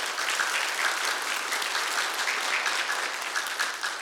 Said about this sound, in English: And it is okay to applaud them.